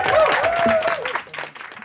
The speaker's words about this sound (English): On that, please join me in clapping with me and cheering your amazing guests.